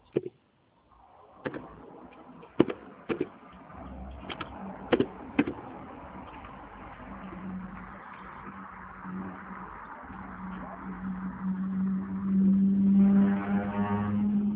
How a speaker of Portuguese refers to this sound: Nossa, que uma moto aí, É porque a gente está sendo obrigada a trabalhar de janela aberta, né, agora, hein?